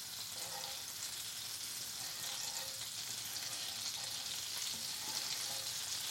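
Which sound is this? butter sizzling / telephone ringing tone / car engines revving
butter sizzling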